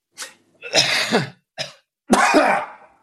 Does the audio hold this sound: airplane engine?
no